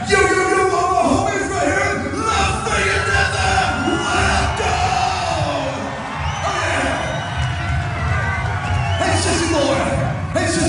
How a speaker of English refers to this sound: You heard all these people over here saying you suck, and they're right.